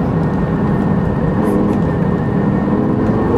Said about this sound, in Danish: Virkeligheden er, jeg kører ikke særlig hurtigt i øjeblikket. Jeg prøver at koncentrere mig om at føle bilen, hvordan den er.